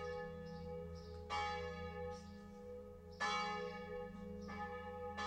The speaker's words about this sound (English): The big grandfather clock ticks 5 times.